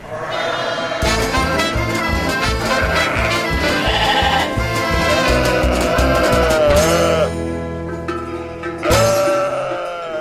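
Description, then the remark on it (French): About ten ewes bleating inside a ministry office occupied by around 70 farmers, many overlapping calls forming a loud, continuous chorus that swells and fades, with a few cries standing out near the end. “Avec des brebis à l'intérieur, une dizaine de brebis et ils sont 70 à peu près.”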